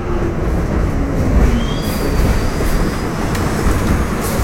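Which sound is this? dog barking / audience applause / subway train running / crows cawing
subway train running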